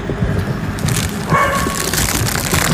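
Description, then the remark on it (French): A female dog with three-week-old puppies in a car barks, a brief tonal yelp rising midway out of a steady, rough outdoor background noise. “Moi j'en ai qui ont 3 semaines dans la voiture. C'est pour ça qu'elle gueule.”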